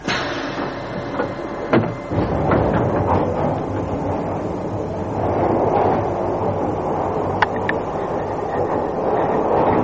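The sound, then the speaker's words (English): A passenger train, the 0816 train for Petushki Station, rumbles along the rails, a steady loud roar broken by sharp metallic clanks and thumps, with no voices. “This is the 0816 train for Petushki Station, calling at Hammer and Sickle, Kuskova, Ryotova, Kuchina, Nazarieva, Drezna, Ariechava, Krutoya, Voinova, Usad, and Pokrov.”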